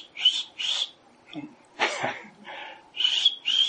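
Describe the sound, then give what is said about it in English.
A person tries to imitate the birds in trees next to a house with a series of short, high, breathy chirps, broken up by a few rougher vocal sounds partway through, all fairly quiet. “I'm going to see if I can do this.”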